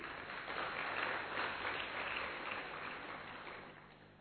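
A crowd claps steadily for about four seconds as a girl is introduced to perform a dance, a dense, even wash of many hands that stays loud throughout and tapers slightly at the end, with no voices.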